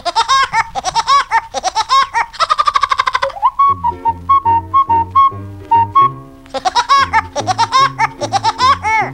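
A cartoon woodpecker song played at the start of a high school chapel service around 1954: rapid, high, staccato laugh bursts, then a bouncy tune over steady thumping bass notes, and the chattering laugh returns loudly at the end.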